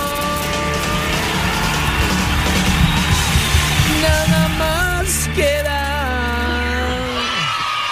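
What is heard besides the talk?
crowd applause and cheering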